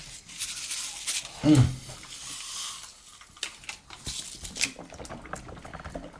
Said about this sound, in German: Man nimmt erst das Brausepulver und dann kippt man einen klaren Kurzen hinterher und dann schüttelt man mit dem Brausepulver das Köpfchen und dann schluckt man das runter.